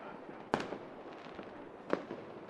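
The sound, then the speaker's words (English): Two sharp, booming bursts of professional grade fireworks about a second and a half apart, each with a short rumbling tail, against a steady outdoor hum. “These are professional grade fireworks.”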